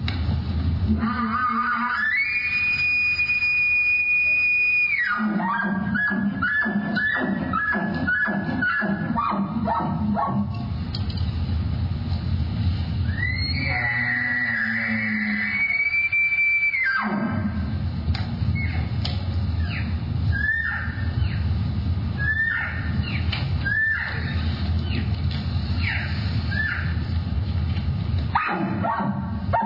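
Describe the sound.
A caller imitates an elk bugle on stage in the pro division of an elk calling championship at the Rocky Mountain Elk Foundation Elk Camp and Mountain Festival: two long, high, whistling bugles, each followed by a rapid series of guttural chuckling grunts, loud, with faint background noise between.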